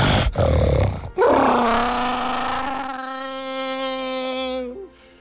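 A person imitates a tyrannosaurus roar with their voice: a short rough burst, then one long, loud, strained bellow that holds a steady low pitch for several seconds before cutting off.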